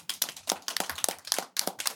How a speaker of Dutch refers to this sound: En we zijn nu aangekomen bij de derde pitch van vandaag. Geef ze alvast een heel warm applaus voor ADOS.